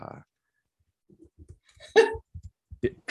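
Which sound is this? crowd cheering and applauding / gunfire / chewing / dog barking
dog barking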